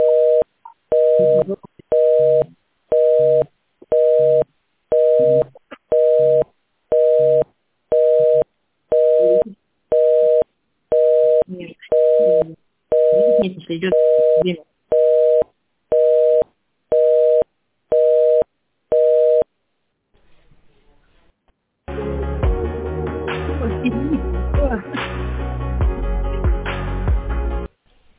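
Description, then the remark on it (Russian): A telephone busy signal on a call to a customer care department that is not picking up repeats its steady two-tone beep in even on-off pulses for about twenty seconds, then cuts out, followed after a short pause by dense background noise. “Заняты пока отдел забота, не берут телефон.”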